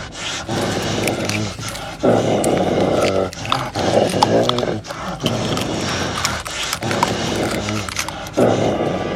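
A dog growls and snarls frantically, loud and continuous, with sharp clattering bursts like teeth snapping against wire mesh, as it bites in a fit of rage at a wire mesh lying on the ground in a garden.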